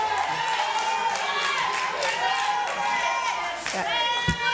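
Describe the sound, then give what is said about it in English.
A crowd of many voices yells and shouts over one another continuously at a public meeting discussing an ordinance to restrict or ban data centers, loud, forming a dense, agitated roar with no single voice standing out. “Lumen May again after continued yelling by the crowd.”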